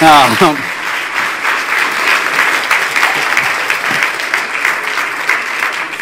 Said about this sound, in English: Hey, okay, Joseph's sister, give her a round of applause.